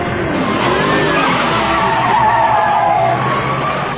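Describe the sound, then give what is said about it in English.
A car tears away with squealing tires, a loud, steady screech over the engine's roar that holds for several seconds without any talking. “Drives a little better than your Taurus, huh”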